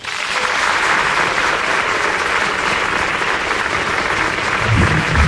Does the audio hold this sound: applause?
yes